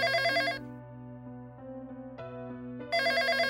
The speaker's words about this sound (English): Anyway, she had been working at the new job, and one day, while a few of her coworkers were out to lunch, one of the other workers' phone began to ring.